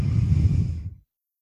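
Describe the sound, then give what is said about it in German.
A single deep, audible breath at the start of a meditation, fairly loud, a broad airy rush lasting about a second before fading into silence. “Wir atmen.”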